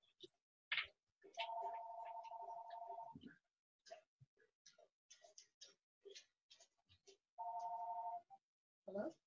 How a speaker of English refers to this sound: And so now look, my phone's ringing. Hang on 1 second.